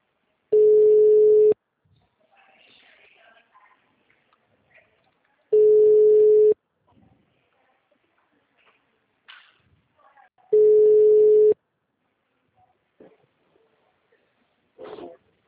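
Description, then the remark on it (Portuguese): A steady mid-pitched telephone busy signal sounds three times, each burst lasting about a second with long pauses between, while faint scattered background noises fill the gaps. “mensagem gratuita de telefone ocupado. Aguarde alguns minutos para voltar a ligar.”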